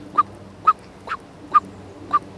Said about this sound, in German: Also zum Beispiel die Warnrufe, wenn eine Amsel eine Katze sieht, die Katze aber noch weit weg ist und harmlos ist, dann hat sie so den leichten Bodenfeind-Alarmruf.